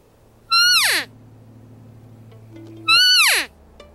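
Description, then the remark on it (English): Two loud, high, whiny mews from an elk cow call imitating a female elk, used in bushes about 45 yards from a group of about 40 elk in September, each sliding sharply downward in pitch and lasting about half a second, separated by a couple of seconds of quiet background hum. “And I got up into these bushes and I took out my cow call. And so this call imitates a female elk.”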